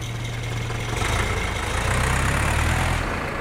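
vehicle, tractor engine idling

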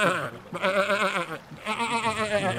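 animal, sheep bleating

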